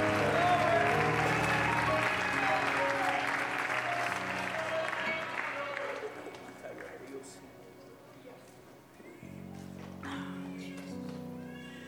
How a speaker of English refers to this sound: Let's give God one more hand clap of praise as you're seated.